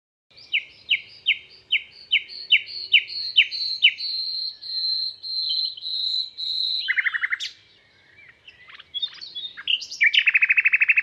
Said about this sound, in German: Die Vögel singen wie zuvor. Ach, gedankenlose Vögel.